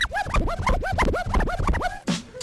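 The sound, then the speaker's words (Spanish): Rapid DJ turntable scratching, a fast run of rising and falling swooshes chopped into a steady rhythm over a low beat, ending with a brief noisy burst. “mira, ahí está el El nuevo metiéndose de DJ.”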